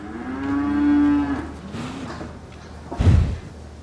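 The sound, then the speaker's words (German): A cow, nearly all black with a white belly, a white marking on the left shoulder and a white udder, lets out a single long, low moo that swells and then trails off, followed a moment later by a dull thump. “du bist aber wirklich eine schöne Kuh.”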